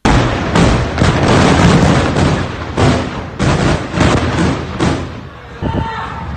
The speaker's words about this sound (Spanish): A esta hora, esos mercados con la respiración también contenida, marcada por el sonido de las bombas.